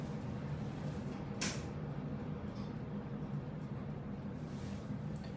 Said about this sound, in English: I just realized there's a really loud air conditioner right here. Give me 1 second. I'm going to turn that off. That will help you guys.